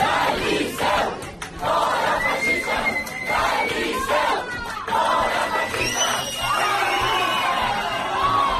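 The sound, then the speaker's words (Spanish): About 40 radical protesters shout and chant continuously at the entrance of the Liceu in Barcelona, blocking people from entering an event for the Constitution and calling them fascists; many voices overlap loudly in an angry, sustained uproar with occasional higher yells cutting through. “Allí los mozos, estos gritando, han montado el pollo, que te llamen fascista la cara, esta panda de ultras.”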